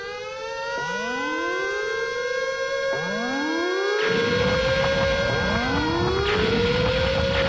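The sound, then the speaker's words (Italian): A loud electronic intruder alarm siren, activated at level 1, wails in repeated rising sweeps, each climbing in pitch then holding, with a harsh buzzing layer joining midway and thickening the sound. No one speaks. “Rilevata presenza di un intruso, allarme attivato, livello 1.”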